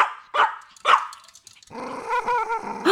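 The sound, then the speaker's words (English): A dog, Paris, growls while chewing a toy: two short, sharp yelping bursts, then a steady, rough, rumbling growl that carries on to the end, with no voices. “After all those bite marks on the glands and the shaft, I'm amazed she hasn't chewed right through it yet.”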